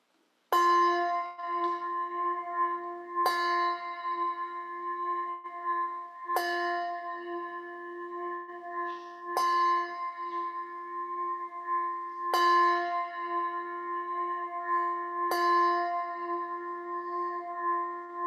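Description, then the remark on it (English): A large church bell tolls slowly and steadily during a Christian worship service, about six strikes roughly three seconds apart, each ringing out with a long, humming decay that overlaps the next stroke. No voices are heard. “Let us, at this time, set aside our old selves and allow the Spirit to give us new birth and allow that new being within us to take birth as the tolling of the bells bring in the light of Christ.”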